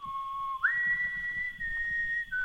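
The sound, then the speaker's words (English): A person in a barn whistles a short melodic refrain from West Side Story through the rafters, clear sustained tones sliding up and holding before shifting to a new note, with a low rumbling background underneath. “whistle a refrain from West Side Story through the rafters.”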